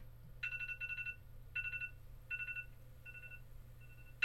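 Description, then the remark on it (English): A telephone rings at the start of a video game, in repeated double bursts of electronic trilling, three clear rings followed by fainter ones, over a steady low background hum with no voices. “Starts with a phone ringing.”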